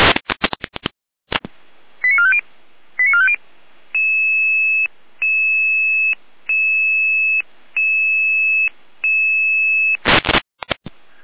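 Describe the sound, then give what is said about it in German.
Electronic emergency dispatch alarm tones over a radio channel, alerting unit 83-3 and the emergency doctor to an unconscious person: two short chirping blips, then five steady, evenly spaced tone bursts, framed by crackling bursts of radio static at the start and end. “Hier ein Alarmruf.”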